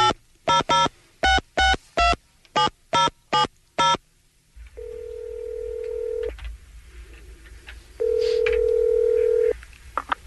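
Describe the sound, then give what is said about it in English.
A phone number for a Walmart store in Calhoun is punched in as about ten quick touch-tone beeps, followed by two long, steady ringing tones separated by a pause, clear over a faint low hum. “Well, I have to call him again.”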